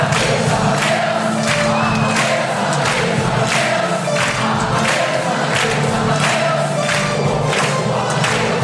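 Nearly 1000 musical fans sing together at full volume at a sing-along in the Ronacher, a dense wall of voices, with steady rhythmic clapping or beats pulsing underneath throughout.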